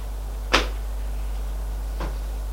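A door opens as a hand turns its handle, with a sharp latch click, followed about a second and a half later by a softer bump, over a steady low hum with no voices.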